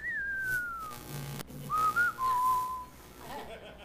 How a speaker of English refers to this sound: And you could almost hear the whistle in the background.